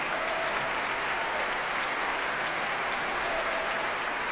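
Sustained, dense applause from a large concert audience for conductor Thomas Dausgaard and the Swedish Chamber Orchestra, a steady roar of clapping hands that stays loud and even throughout without pause or speech.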